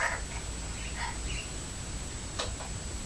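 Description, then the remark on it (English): Faint cheeps of caged pet birds next door, a few short high chirps scattered through the first second or so, half-buried in a steady background hiss, with one brief click later on. “I can hear the birds cheeping next door, can you?”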